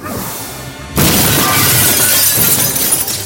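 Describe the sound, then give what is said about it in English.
After a brief quiet lead-in, a control panel mechanism is smashed by a thrown object with a sudden loud crash, followed by a couple of seconds of shattering, clattering debris. No one speaks. “I did it! I smashed the mechanism.”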